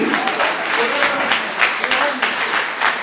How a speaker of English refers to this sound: I need you to clap your hands and say, God, do it for me.